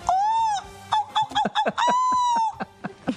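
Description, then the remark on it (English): A person imitates a seagull call: a long, strained squawk, a string of short choppy yelps, another drawn-out cry, then a few more quick yelps, all loud. “I can feel that you really want me to do an impression of a seagull, so I'm going to give it a go.”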